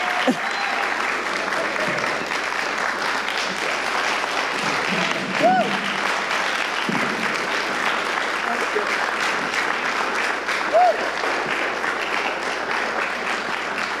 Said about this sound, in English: will you please give Trent and Kirk an awesome round of applause?